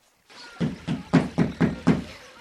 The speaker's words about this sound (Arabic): وفجأة سمع الخروف طرقا على الباب.